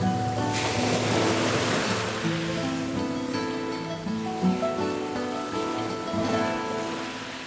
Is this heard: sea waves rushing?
yes